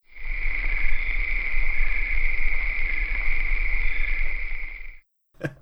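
Crickets chirp in a steady, shrill trill that runs unbroken for about five seconds over a low background rumble, then cuts off abruptly.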